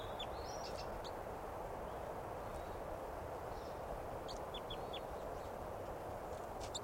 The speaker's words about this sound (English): Wild bird chitter first. Wild. Chitter of the wild bird.